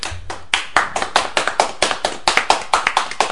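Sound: round of applause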